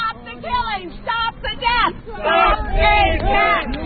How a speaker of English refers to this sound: Here are some of the sounds of the protest.